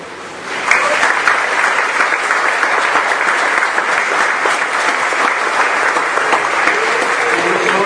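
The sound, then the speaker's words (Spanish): A crowd breaks into sustained applause for a choir, many hands clapping densely and steadily at a loud level for several seconds after a brief quieter start. “Un agradecimiento especial y un aplauso para el coro.”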